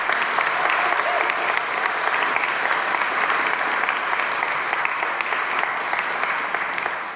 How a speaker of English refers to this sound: And actually, could I have a massive round of applause